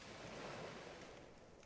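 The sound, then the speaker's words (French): Soft, steady wash of distant ocean surf breaking on a shore, a broad continuous hiss that swells slightly and then eases, with no voices. “Pas d'autre bruit que le discret crépitement du feu et les vagues au loin.”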